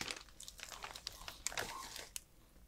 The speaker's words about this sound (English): I can hear you rustling the bag of cheese.